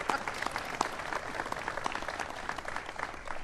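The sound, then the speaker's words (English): An audience at a National Association of Police Organizations event applauds steadily to congratulate its president, Tom Nee, on a new grandson, a dense wash of many hands clapping at an even level with scattered sharper claps standing out, and no one speaking over it. “So give him a round of applause for that.”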